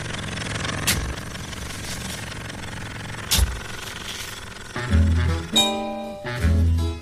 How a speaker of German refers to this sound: Ja, das ist das Intro. Und ne, also auch Geräusch, dieses Auto, Oldtimer-Geräusch.